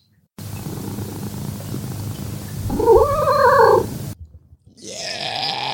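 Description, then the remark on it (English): A cat lets out a long, rising yowl that climbs in pitch like a scale, loud, over a low rumbling background, followed by a burst of hiss-like noise. “I'm going to do that thing again. The one where he runs the scale?”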